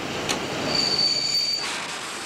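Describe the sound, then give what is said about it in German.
A mail train braking to a stop at a signal set to red, at night in August 1963, as Ronald Biggs and his gang board it to rob it: its wheels let out a thin, steady high-pitched squeal for about a second over a loud, continuous rumble of rolling railcars. No voices. “Sie haben das Signal auf Rot gestellt, entern den ordnungsgemäß anhaltenden Postzug, kümmern sich zunächst um den Lokführer, den sie verprügeln, und dann um die Fracht, die sie ausladen.”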